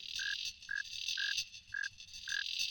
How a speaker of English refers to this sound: This is David Rothenberg playing music with insects. He's recorded songs with a lot of them, with crickets and cicadas, and yes, even mosquitoes.